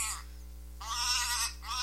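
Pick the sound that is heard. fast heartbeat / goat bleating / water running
goat bleating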